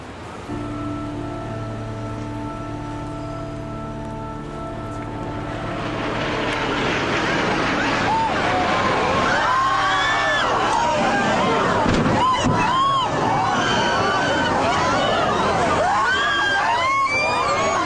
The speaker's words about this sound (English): Another one. We just saw another one. We just saw another plane just flew into the second tower.